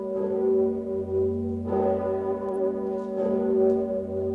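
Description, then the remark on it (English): The Sigismund bell of Kraków, a huge cathedral bell cast from cannons, tolls with a deep, humming fundamental and shimmering overtones, struck about every one and a half seconds so each new clang swells over the lingering ring of the last. “Old Sigismund. Gegossen aus Kanonen. Cast from cannons.”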